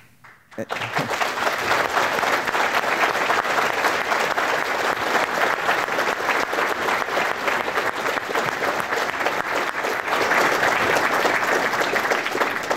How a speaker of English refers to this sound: And I will take that applause as a thanks to the men and women in uniform who have served our nation, because that without them, we do not have the Constitution to uphold and defend.